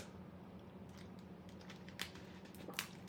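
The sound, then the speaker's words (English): Rapid, irregular keyboard clicks over a low steady hum as someone types a two-page paper for homework, with a couple of sharper, louder keystrokes standing out near the end; fairly quiet, no voices. “I'm writing a paper right now that's due next week, but I have 3 assignments with the same criteria.”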